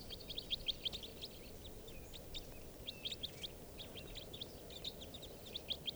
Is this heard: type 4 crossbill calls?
yes